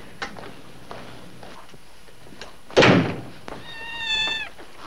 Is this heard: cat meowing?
yes